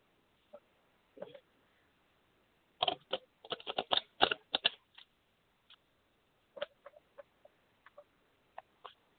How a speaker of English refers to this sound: One second. Just gotta shuffle my cards again.